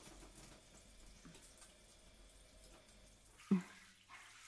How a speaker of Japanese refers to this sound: はい、では頭を流しいたしますね。シャワーを流し、